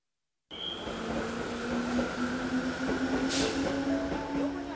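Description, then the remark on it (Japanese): A train rolls into platform 1 of a station with a steady rumble and a droning motor hum, a brief hiss of air or brakes cutting in near the end. “1番線ご注意ください。電車参ります。”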